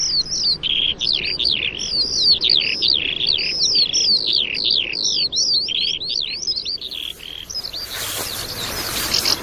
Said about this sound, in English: we've got house martins, lots of house martins flying around us at the moment, feeding on the insects coming off the water